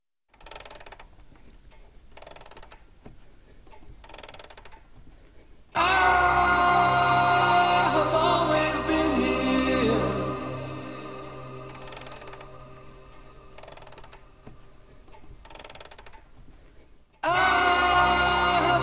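Clocks tick steadily in an 87-year-old watchmaker's workshop, then a loud, sustained ringing chime with rich tones swells for several seconds before the ticking returns. Nobody speaks.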